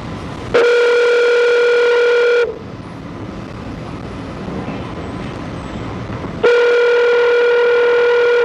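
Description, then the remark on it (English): A steady, buzzy telephone tone sounds twice, each burst about two seconds long, separated by a few seconds of faint line hiss, while phone calls are patched together for a parole hearing. No one speaks. “We're sensitive here, patching these phone calls together.”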